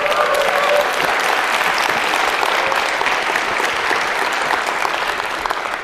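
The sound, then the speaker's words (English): An audience at a talk claps steadily for about six seconds at the speaker's request while he drinks water, a dense, even wash of many hands at a constant loud level with no voices breaking through. “water tastes so much better when someone's clapping.”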